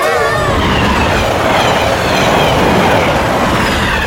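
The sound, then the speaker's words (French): The 15:47 train rumbles past, loud and continuous, its wheels clattering in a steady clickety-clack rhythm over a broad roaring wash of noise, with no voices. “C'est rien, c'était le bravo Cacordélia de 15h47. Hein ? Ben quoi ? Vous connaissez pas les trains ?”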